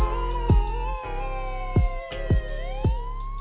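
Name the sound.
police car sirens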